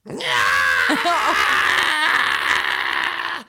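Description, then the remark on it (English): A narrator reading a story voices the character Herr Bish's angry scream: one loud, strained, drawn-out howl lasting about three seconds, with no other sound around it. “He's not happy. He screamed.”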